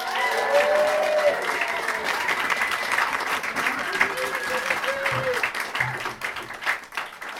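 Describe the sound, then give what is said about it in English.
A comedy audience bursts into loud, sustained applause for comedian Ali Warwood, with scattered cheers and whoops, dense clapping continuing for several seconds before starting to thin out near the end. “Please give it up for the fantastic Ali Warwood.”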